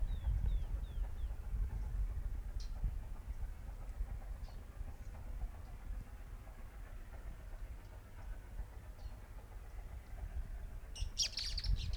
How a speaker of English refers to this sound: Several birds there. Three birds singing at one time. Four.